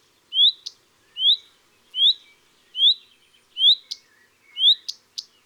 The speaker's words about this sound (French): Voici les huit du rouge-queue à front blanc, qui sont souvent suivis de tec d'alarme. Huit tec.